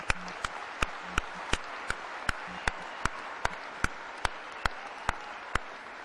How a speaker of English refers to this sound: Let's applaud the graduates.